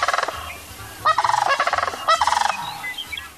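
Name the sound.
sandhill crane calls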